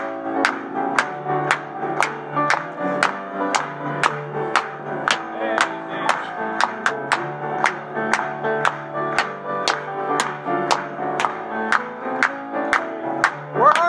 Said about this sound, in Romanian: Hai să o aplaudăm încă o dată.